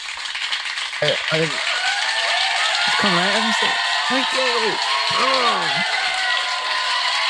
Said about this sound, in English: Oh my god, that's awesome. That is a sound I haven't heard in a while. People in the one room clapping and having a good time. Whoa, can't wait for that again.